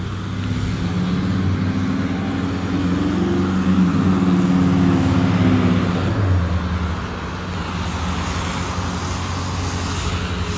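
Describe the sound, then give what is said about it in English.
A digger's diesel engine drones with a steady, low rumble that rises and dips slightly in pitch, then eases off to a quieter hum partway through. No one speaks. “What is that? Some kind of digger.”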